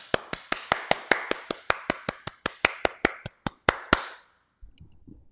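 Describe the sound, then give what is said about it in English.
An audience applauds with steady, evenly spaced hand claps, about twenty sharp crisp slaps in a slow, regular rhythm over four seconds, then silence with a faint low rumble. “And they applauded.”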